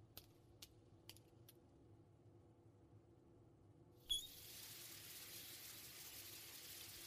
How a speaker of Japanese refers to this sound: ちょっと待ってて、シャワーの温度を調整するから。